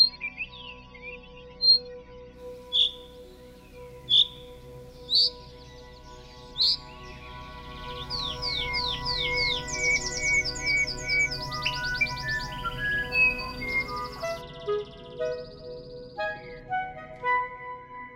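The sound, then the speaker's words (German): A bird repeats sharp, high chirping calls at steady intervals, calls used as a substitute for song, then shifts into a quicker string of descending whistled notes. The calls sound clear, with no one talking. “Das sind Rufe, die eigentlich Gesangsersatz darstellen.”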